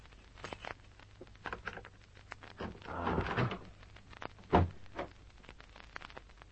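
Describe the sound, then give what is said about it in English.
Metallic clicks and rattles of a skeleton key working in a door lock build to a scraping burst before a sharp clunk as the door swings open. No one speaks. “After a couple of minutes of pressing the gold-plated buzzer, I took out my skeleton keys.”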